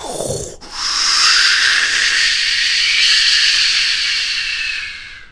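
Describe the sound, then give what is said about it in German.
After a brief different noise, a loud, steady rushing roar of storm wind through forest trees that bend in the storm swells up and holds for several seconds, bright and hissing, with no voices. “Da begann es plötzlich gewaltig zu rauschen.”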